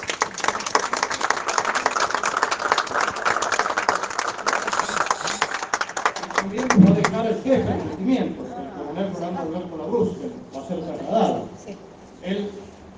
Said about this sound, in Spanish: Y este hombre ha conducido esta banda, ha dirigido esta banda durante muchos años, y nos ha acompañado muchos años. Así que un aplauso, les pido para él.